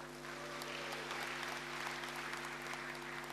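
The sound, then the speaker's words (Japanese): Sustained applause from an audience at a meeting of the Saitama Prefecture welfare association for the visually impaired, a dense, steady patter of many hands clapping at moderate volume, with a faint constant hum underneath and no talking. “たくさんの拍手ありがとうございました。”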